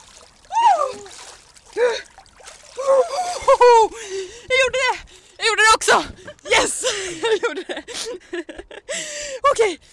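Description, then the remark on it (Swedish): Water splashes in a few sharp bursts as a person plunges, after a sauna, into a dark hole in the ice for a few seconds; they gasp, yelp and whimper loudly, breathless cries dominating between the splashes. “Och nu är det vattnet som gäller. Åh, det här mörka hålet! A few seconds under the water.”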